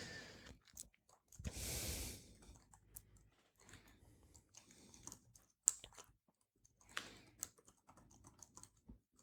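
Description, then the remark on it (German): Irregular computer mouse clicks and small tapping sounds as someone clicks through the room detail pages of a building plan, with a short rustling burst early on, all fairly quiet and with no one speaking. “Ich klicke nochmal hier unsere Räume im Detail.”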